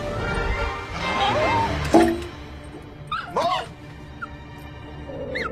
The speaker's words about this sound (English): Get that goddamn dog out of here.